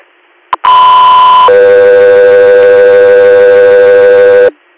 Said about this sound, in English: stand by for tones.